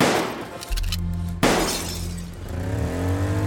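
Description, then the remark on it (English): A single sharp shotgun blast, fired from a limousine at a Dodge sedan near Harlem in October 1924, cracks out midway over a rumbling car engine, with a noisy burst like shattering glass, then the engine drones and revs on. “As soon as the limo's window rolled down, a shotgun began to fire.”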